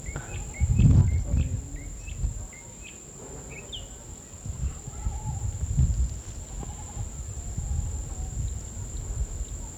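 A mockingbird in a mango tree sings a string of short, varied chirps and whistles over a constant high insect drone and a low outdoor rumble, in an open meadow on a small ridge overlooking a cane field, at about 7 o'clock.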